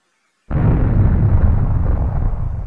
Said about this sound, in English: Instantly, on the thump of an explosion, I move out, my software calculating the likely origin of the missile.